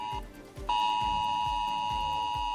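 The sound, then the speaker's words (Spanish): A loud, piercing mobile phone emergency alert tone from a test of Spain's ES-Alert mass messaging system for warning of catastrophes and emergencies: a short steady beep, a brief break, then a continuous harsh sustained tone over a faint low rhythmic thumping. “Desde hoy, Interior pone en marcha un sistema de pruebas, un mensaje indicando que el S-Alert, que así se llama, es un envío masivo de mensajes para avisar de catástrofes y emergencias.”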